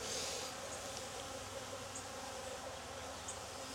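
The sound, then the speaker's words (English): A dense, steady hum of many honeybees buzzing around an open hive as a beekeeper inspects it, a continuous droning swarm sound with faint higher chirps drifting in and out, no voices present. “Lots of bees.”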